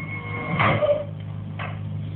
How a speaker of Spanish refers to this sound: ¿Eh? ¿Alguien cerró la puerta? ¡Maldición! ¡Maldición! ¡Me han dejado encerrado!